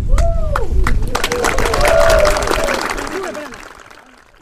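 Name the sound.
audience applauding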